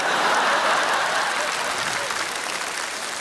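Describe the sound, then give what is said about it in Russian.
An audience claps steadily, a dense wash of many hands that stays loud and even for the whole stretch, easing off only slightly at the end. “Это зал аплодирует тоже.”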